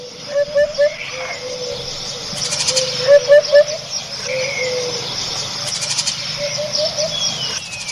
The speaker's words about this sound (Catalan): Després, un altre important, que en castellà es diu la bubilla, sí. Així li diem la palput o la puput. Este és un dels, jo diria, és un dels pardals més diferents, estrany. Mira, escoltem-lo.